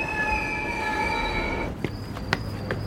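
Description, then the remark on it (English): A train car carrying passengers wearing earbuds and headphones rumbles along the rails with a steady low roar. High metallic wheel squeals ring for the first half. Then there are a few sharp clanks and knocks as the tones fade. “I look around the car at everyone wearing their earbuds and headphones, lost in their voices.”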